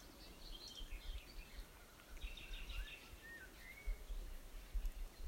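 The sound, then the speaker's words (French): Faint birdsong, scattered chirps and short whistled phrases rising and falling over a steady rustling, breezy background. No one speaks. “Et doucement, amenez votre attention au chant des oiseaux qui chantent quelque part dans le monde.”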